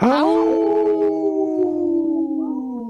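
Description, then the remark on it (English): A dog lets out a long, sustained howl, starting strong and holding a steady, slightly falling pitch for a few seconds. It is fairly loud, with no talking over it. “got a howl in too off off camera here.”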